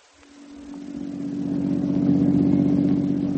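A car engine hums steadily as the vehicle drives in the evening, its low droning tone growing gradually louder and fuller over a few seconds, with no voices present.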